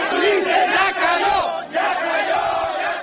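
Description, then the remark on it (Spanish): A large crowd in Oaxaca chants the protest slogan "fuera el gobernador Ulises Ruiz" (out with Governor Ulises Ruiz) in unison, many voices shouting together loudly and steadily, with two brief dips between phrases before the chant surges back. “A partir de allí, la gente empezó a gritar en una sola voz: fuera el gobernador Ulises Ruiz.”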